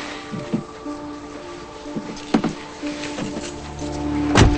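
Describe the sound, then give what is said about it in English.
A man shuts a car door with a solid thud near the end after a woman slides into the passenger seat, preceded by a few lighter knocks and shuffling movements over a steady low hum. “He shuts the door and she feels things around her.”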